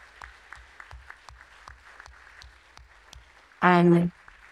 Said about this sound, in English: And those volunteers in particular were amazing and excellent. I know there were others who were also wonderful and excellent. But if I could get a round of applause for them, that'd be a really, really nice feeling.